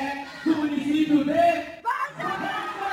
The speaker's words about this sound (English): Everybody starts cheering.